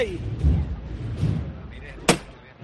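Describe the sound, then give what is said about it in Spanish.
A single sharp, loud strike of the llamador knocker on the procession float of the Señor de Pasión rings out over a low murmur of crowd noise, its metallic crack decaying quickly, before the float is lowered to the ground on Paseo Santa Fe near the parish of San Pedro on a cold, clear night. “Y ahí suena el llamador y se echa a tierra.”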